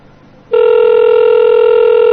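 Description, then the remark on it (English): After a moment of low hiss, a loud, steady electronic ring tone of a phone call sounds through the line and keeps going unbroken, with no one picking up and no voices. “Nobody good. Ever answers the Haitian hotline.”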